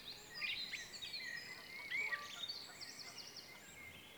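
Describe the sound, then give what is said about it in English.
A dense dawn chorus of many birds in a forest, overlapping chirps, trills and bright whistles layered into a continuous high-pitched chatter, fairly soft and with no voices. “The dawn chorus is predominantly birds calling in the early morning to defend their breeding territory, attract a mate, or to call to others in their social group.”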